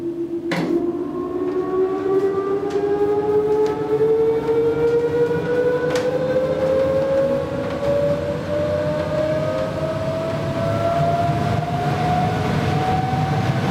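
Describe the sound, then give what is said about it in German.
An old motor from 1930 drones while pumping air into organ bellows about 2.5 by 3 metres, filling them so the organ can be played; its whine climbs slowly and steadily in pitch over a loud, constant rush of air, with no voices. “Ja, wir haben Glück, der Blasebalg ist noch dicht, also wird er jetzt mit Luft vollgepumpt.”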